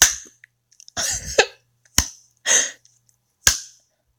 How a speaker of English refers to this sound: Wait, did your cock just get harder because I slapped it?